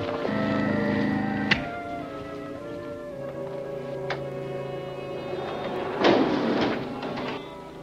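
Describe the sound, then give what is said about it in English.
A lift's solid inner door slides and clatters shut behind wrought iron gates at the floor of a director's office, with sharp metallic knocks near the start and middle and a rattling slam toward the end, all over a steady mechanical hum. No one speaks. “Hearing the director's voice, they reclose the inner door.”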